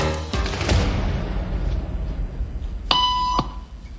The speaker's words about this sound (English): Did you hear that? These people sure did. It doesn't take long for our test subject to notice a pattern. Beep means stand up. But why? And if you were in her shoes, what would you do the next time the tone sounds?